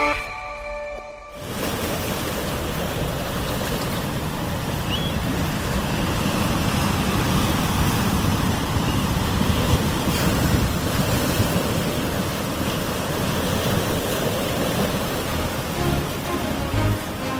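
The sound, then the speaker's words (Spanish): Steady, loud ocean surf rushing and breaking continuously, with a broad wash of noise and some wind buffeting, after a brief quiet moment at the start. “El sonido de las olas marca la identidad de lugares, de países.”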